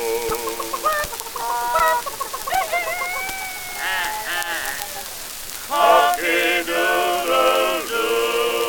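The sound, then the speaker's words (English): A person imitates a rooster, with a run of clucking calls and then drawn-out, wavering crowing. The voice is loud, with no other talk. “Cock-a-doodle-doo.”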